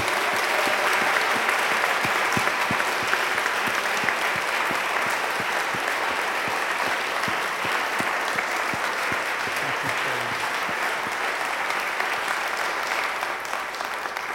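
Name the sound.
big round of applause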